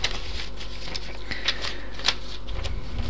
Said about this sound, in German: Etwas blättern, dann geht's weiter.